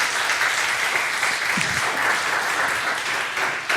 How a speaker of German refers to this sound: Erstmal vielen Dank für diesen tollen Vortrag, gerne Applaus.